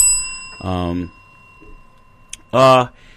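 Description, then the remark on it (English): A single bright bell strike rings out and lingers with a long, steady tone for a couple of seconds while voices briefly call out over it. “Cheap plug, ring the bell.”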